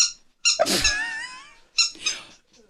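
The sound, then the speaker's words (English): A squeaky rubber chicken toy, with a finger stuck in its hole, lets out a long, wavering squeal followed by a couple of shorter squeaks, loud with no talking. “Give it here, because I thought it had lost its squeak. But if you stick the hole in it, your finger in the hole, it just did it.”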